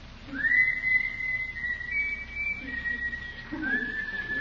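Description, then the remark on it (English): A person whistles a tune, a clear steady high note that holds for a few seconds before dipping and picking back up, with soft low murmuring underneath. “How did that tune go? Catchy.”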